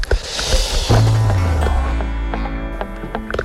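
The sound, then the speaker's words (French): Busy rustling and scattered clicks as someone digs through a bag looking for their badge, the shuffling continuous over a low engine rumble that comes in partway through. “Et d'ici là, il faut que je trouve mon badge qui est dans mon sac.”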